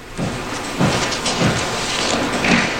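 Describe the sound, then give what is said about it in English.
Hammering in the background of Lawrence O'Donnell's TV broadcast as he goes to commercial: about five dull, evenly spaced blows, roughly two per second, over a steady wash of hissing noise, with no voices. “Stop the hammering out there.”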